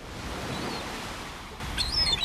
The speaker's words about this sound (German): Es hört sich alles nach Idylle an. Wellen, Möwen, eine blaue See.